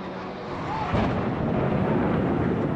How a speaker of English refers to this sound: What the hell was that? It sounded like a plane crash.